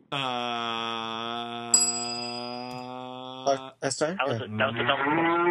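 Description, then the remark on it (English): A long, loud cow moo sound effect holds a steady low pitch for several seconds, then cuts off into a burst of overlapping talk and laughter. “Can we get a moo cow for that remark?”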